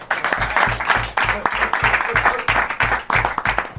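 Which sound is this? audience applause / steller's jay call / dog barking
audience applause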